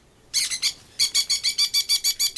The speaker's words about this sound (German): Hörst du das auch oder bilde ich mir das nur ein? Das ist doch ein schreiender Papagei.